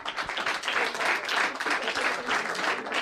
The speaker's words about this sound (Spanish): Bueno, un aplauso para Gema, por favor.